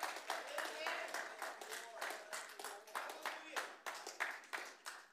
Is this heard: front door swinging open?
no